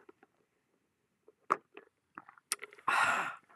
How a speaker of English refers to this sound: but currently drinking an iced coffee. I'm going to have a sip right now, so listen to the ASMR.